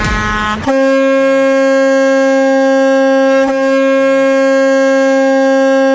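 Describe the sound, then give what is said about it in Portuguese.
A loud vehicle horn blares in one long, steady, piercing blast lasting several seconds, right after a brief burst of noise at the start, with a slight hiccup midway. “ao top de três buzinaços.”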